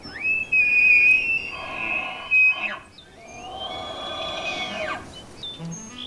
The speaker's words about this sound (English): And if you look closely, you may also be able to spot or hear one of the park's 700 or so tule elk.